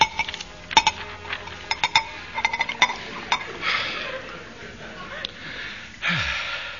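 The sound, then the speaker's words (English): A quick run of light, ringing glass clinks, then a soft hissing rush of cream soda being poured into a glass, which pauses and starts again briefly at the end. “Oh, it's marvellous what a glass of cream soda can do for one.”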